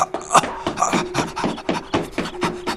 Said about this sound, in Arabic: اللعنة على الشيطان الرجيم، اللعنة على الشيطان الرجيم، إنه كلب عقور. هيا ابتعد، هيا.